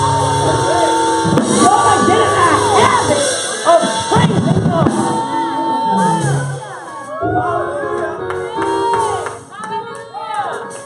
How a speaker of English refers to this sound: I'm glad y'all shouted right there.